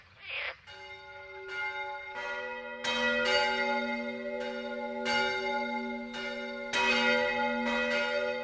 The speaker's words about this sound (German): Sehr gerne geklagt wird in Deutschland auch gegen Kirchenglocken. Aber die sind nur bedingt abschaltbar.